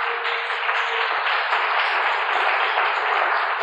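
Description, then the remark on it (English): An audience claps for Jesus Christ together in a dense, steady wash of applause that stays loud and even for several seconds, with no voices standing out. “clap for Jesus Christ.”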